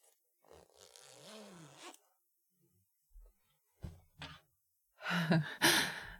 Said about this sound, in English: I know I just helped you zip up your dress, but I'm going to unzip it now, okay?